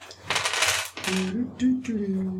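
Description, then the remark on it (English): A short burst of real dice clattering and tumbling across a hard tabletop, fairly loud, rolled for initiative, followed by a person speaking. “Real dice. I hate real dice.”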